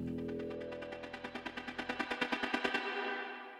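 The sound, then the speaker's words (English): Fireworks crackle in a rapid, quickening string of sharp bangs over a dense roaring background, building to a loud climax before ending abruptly with a fading echo. “In 2010 in the Philippines, it took just 17 seconds to launch nearly 126,000 rockets.”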